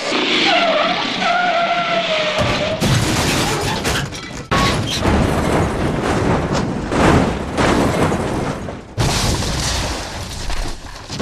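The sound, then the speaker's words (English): A motorcycle skids on a curve with a long screeching slide, then crashes in a loud, chaotic burst of scraping and impact noise that continues in rough waves, loud throughout. “It is, and you know, I don't know whether, I think this is his first time that he's ever ridden on a motorcycle.”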